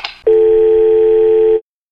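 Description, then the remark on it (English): A short clatter, like a handset being set down, then a loud, steady telephone dial tone hums continuously for over a second before cutting off abruptly into silence. “Mama says hang up the phone.”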